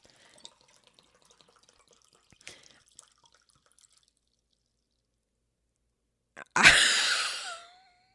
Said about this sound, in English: I did it so I wouldn't have the bottle on camera. And then I still poured on camera.